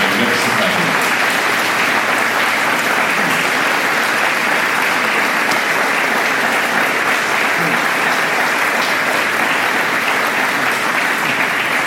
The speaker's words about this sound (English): I apologize for that, but I thank you for your attention and your welcome tonight. A round of applause.